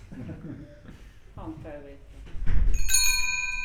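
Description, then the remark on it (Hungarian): Soft voices murmur briefly, then a single bell is struck, its bright metallic tone ringing out loudly and sustaining steadily until the end, as it is recorded onto a phone as a ringtone. “Egy rövid csendet kérek, mert a telefonomra ráveszek egy csengőhangot. Igazi csengőhangot.”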